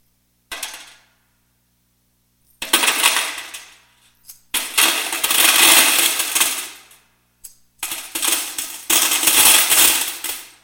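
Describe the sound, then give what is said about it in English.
Coins clatter and jingle as a crowd puts money into the temple treasury's large brass trumpet-shaped collection boxes, in several loud bursts. Bright metallic rattling swells, fades and starts again, with no voices. “Now, to hear that in these brass trumpets, it was as if saying, look at me, what a great giver I am.”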